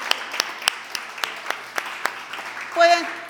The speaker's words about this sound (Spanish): Un segundito, pongámonos de pie y vamos a darnos un aplauso porque somos hijos.